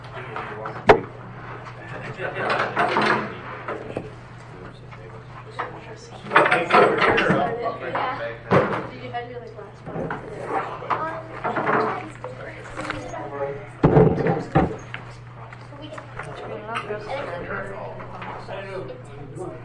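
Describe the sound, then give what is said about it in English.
A couple of wooden chairs scrape and knock as they're shifted into position, several irregular clunks and drags, with people talking in the background and a steady low hum. “Say, need a couple of chairs here. Yep, we're gonna need them.”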